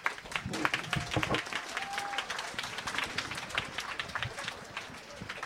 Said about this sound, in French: On l'applaudit.